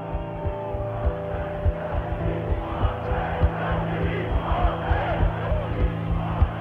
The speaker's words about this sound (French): Le 13 mai 1958, Alger est en ébullition. Le gouvernement général a été envahi. La foule, soutenue par des militaires et des colons, réclame que l'Algérie reste française.